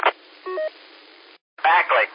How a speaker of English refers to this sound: So I heard your phone just go off, so you'd have got my number, did you?